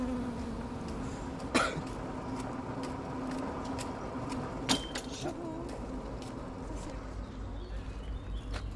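A white-tailed, ground-nesting bumblebee worker carrying pollen loads drones steadily, its low buzzing hum continuing throughout outdoors, with a few sharp clicks and brief knocks breaking in over the background.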